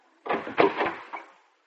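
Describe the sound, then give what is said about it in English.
A door being opened: about a second of rattling, scraping noise punctuated by a few sharp clicks, moderately loud, then quiet. No one speaks. “Open the door”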